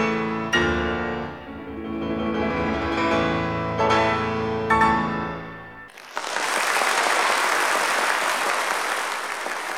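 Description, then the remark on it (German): Piano chords as Franz Liszt plays a march for about six seconds, then give way abruptly to a loud, sustained roar of jubilant applause and cheering from a large Hungarian audience that continues to the end. “4-mal muss Liszt unter rauschendem, jubelnden Beifall den Marsch wiederholen.”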